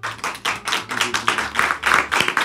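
Guests on a stage in Milan applaud on a sunny day, a dense run of overlapping claps with quick rhythmic bursts, fairly loud throughout with no talking over it.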